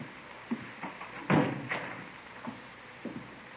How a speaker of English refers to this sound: Come on in, man. Have a seat. Did you close the door, Friday? Yep, sure.